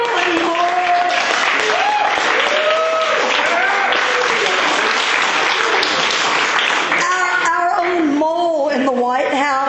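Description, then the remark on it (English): An audience breaks into sustained, loud applause for Reverend Ivan Stanger at a church gathering. The applause carries steadily throughout, with voices calling and talking over the clapping, and the sound thins slightly toward the end. “Let's have a round of applause for Reverend Ivan Stanger.”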